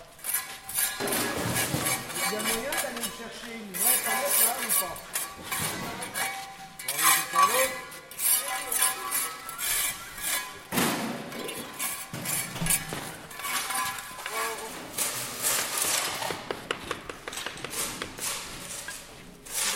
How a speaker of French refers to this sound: On entend des pelles et des truelles qui raclent le sol. Des élèves rangent un chantier de murs en moellons.